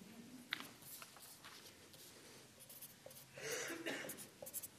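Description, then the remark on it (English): Quiet scratching of a pen on paper, coming in short irregular strokes with a busier stretch of writing near the end, with no one talking. “Yeah, I'll just use the other paper.”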